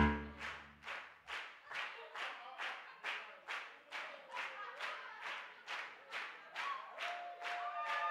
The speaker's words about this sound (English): Let's keep that clapping going.